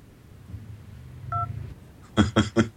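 telephone keypad dialing tones

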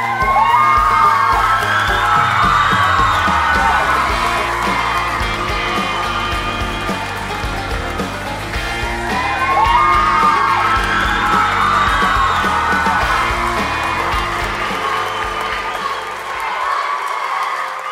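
audience cheering

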